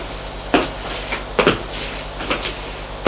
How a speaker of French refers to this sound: Une porte de bois marron foncé s'est ouverte et apparaît un homme, grand, mince, cheveux gris, court.